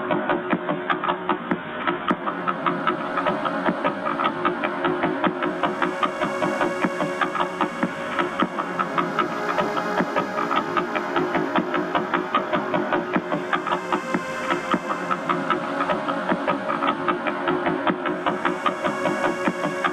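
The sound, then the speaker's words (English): Sonified millisecond pulsar signals: a dense, steady buzz of extremely rapid pulses layered together into a loud, rough drone that holds evenly for the whole stretch, with no voices. “So we're going to put the millisecond guys in there. The ones you just heard.”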